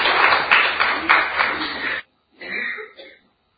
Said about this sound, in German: Ja, herzlichen Dank. Ich denke, ein Applaus.